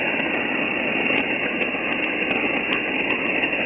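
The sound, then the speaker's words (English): A steady wash of hissing amateur-radio static with a narrow, muffled tone, crackling QRM interference running throughout, and faint regular ticks on top; no one speaks. “Roger, there is a bit of QRM, but you got a nice signal anyway.”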